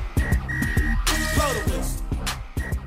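A shrill, steady whistle sounds in several long blasts over a thumping, rhythmic music bed, with a brief burst of noisy hiss midway through.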